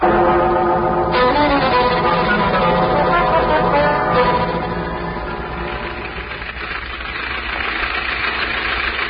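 A bus engine runs steadily throughout, a continuous low rumble and drone that dips slightly midway before building again, with no talking.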